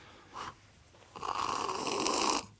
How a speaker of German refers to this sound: Er schlürft. So muss man schlürfen, der ist zu heiß. Aber wunderbar.